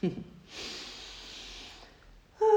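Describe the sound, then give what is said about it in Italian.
A long, airy yawn drawn out for over a second, fairly soft, with brief bits of a voice just before and after it. “Di sbadigliare liberamente.”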